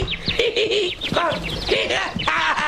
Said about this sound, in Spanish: ¡Un pájaro!